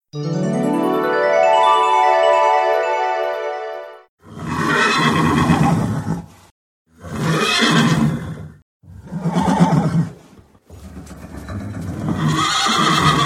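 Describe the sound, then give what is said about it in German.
A horse whinnies loudly in one long quavering call, then gives several harsh, breathy neighing bursts separated by short pauses. No one speaks. “Ein Pferd.”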